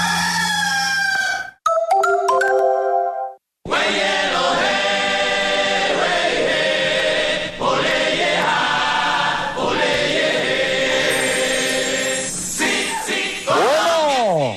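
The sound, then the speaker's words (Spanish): A rooster crows loudly, again and again, its harsh rising and falling calls layered over a dense, busy background with brief breaks near the start. “¡Este es el gallo!”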